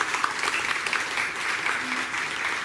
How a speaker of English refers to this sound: You may end up with two rounds of applause at this rate.